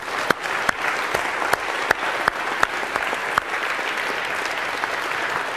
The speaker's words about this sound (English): So a huge round of applause if we could for him as well.